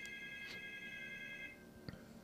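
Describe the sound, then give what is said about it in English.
A landline house phone rings once, a steady, bright electronic trill lasting about a second and a half before cutting off, followed by a faint click, with no one speaking. “God, remember when your house phone used to ring like that?”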